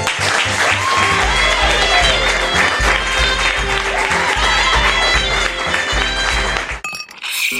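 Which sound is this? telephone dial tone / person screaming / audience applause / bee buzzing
audience applause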